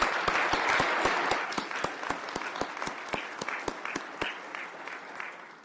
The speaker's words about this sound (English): Well, Glenn, first of all, one more round of applause for Glenn Steele. Woo!